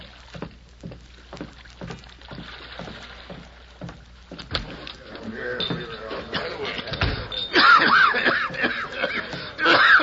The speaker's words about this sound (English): He hesitated for a moment as he reached the dock, while his body was shaken by a dry, hacking cough.